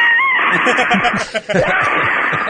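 A parrot named Waldo squawks and screeches loudly and almost continuously with a brief whistle at the start, the sound thin and band-limited as if coming through a telephone line.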